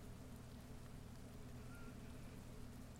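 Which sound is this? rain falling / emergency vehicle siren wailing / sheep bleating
rain falling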